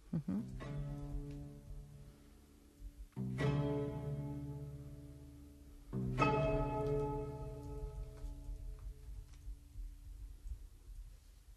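Orchestral strings played pizzicato imitate church bells ringing in Madrid: three strong, ringing strokes about three seconds apart, each fading slowly over a steady low bass drone from cellos and double basses, with violins and violas on the higher notes, with no voices.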